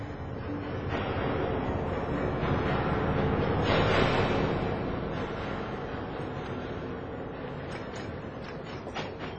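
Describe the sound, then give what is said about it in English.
A passenger train rolls steadily along the rails on a cold day, after the Stamford stop and before the Willoughby stop, a continuous low rumble with faint rattling, swelling slightly in the middle before settling back to an even drone. “Stop the train.”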